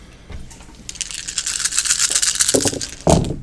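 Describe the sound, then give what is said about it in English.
A handful of dice, thrown for a heavy pistol damage roll in a game, rattle and clatter in a sustained bright, clicking burst, followed by a couple of louder knocks as they tumble and settle; no one speaks. “So I'm rolling the four successes and then five for damage. Five more dice, yep. Ah, throwing it.”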